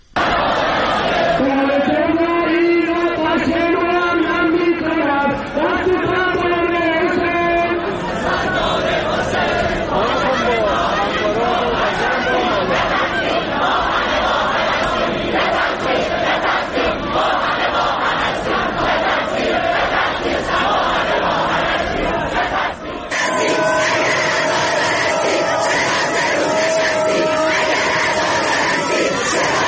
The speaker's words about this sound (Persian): در دانشگاه بهشتی تهران گروهی از دانشجویان این دانشگاه به مراسمی که از سوی بسیج این دانشگاه برای کشته شدگان هواپیمای مسافری برگزار شده بود اعتراض کردند. به بخشی از صدای شعارها گوش کنیم.